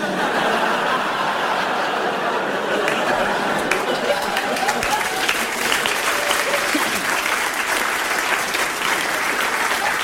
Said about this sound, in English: Someone sat down there who tried to start a round of applause and it didn't look like you were going to go with it. And I've got to say, she f***ing wouldn't let go of that. She was like, no, we clap now.